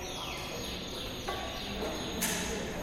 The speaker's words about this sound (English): I found myself standing under a giant hanging mobile with seven canary cages. Those little birds you hear are real, and they're quite vocal.